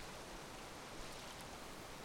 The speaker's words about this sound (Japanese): 清流の音が体に染みていくはずです。